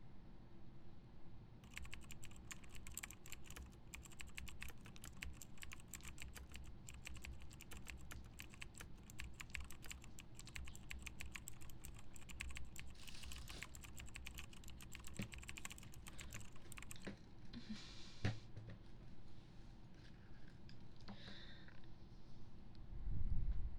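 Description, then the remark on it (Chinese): Steady, rapid typing on a computer keyboard while catching up on writing notes, with dense clicking keystrokes running nearly the whole time over a low background hum. No one speaks. “第三句，我现在正在补写笔记，因为我知道错了。”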